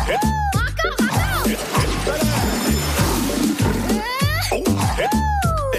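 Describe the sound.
Water splashes and sloshes loudly and continuously in a wave pool at Granby, while excited children's voices shout and whoop with rising and falling pitch over the churning water.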